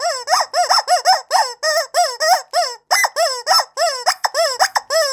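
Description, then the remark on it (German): A rubber chicken toy squeaks over and over in rapid, loud bursts, each squeeze giving a shrill, wavering squawk in a quick, uneven rhythm, with no voices present. “Wobei letztere auf dem Gummihuhn herumbeißen, während das Gummihuhn um sein Leben schreit.”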